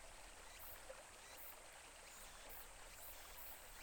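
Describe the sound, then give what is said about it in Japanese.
A small brook babbles steadily nearby, a continuous gentle rush and trickle of water with no voices, holding an even, soft level throughout. “そよぐ風に揺れる林の木々のかすかなざわめきが聞こえてきて、そっと耳を澄ませば近くに流れる小川のせせらぎや鳥たちのさえずり、セミの鳴き声、涼やかな風鈴の音、耳へ届くたくさんの音色が私に安らぎを与えてくれるの。”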